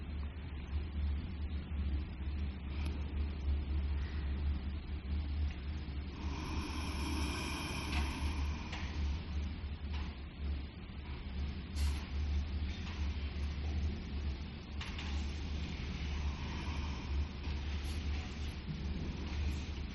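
vacuum cleaner running

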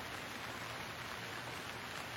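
rain falling

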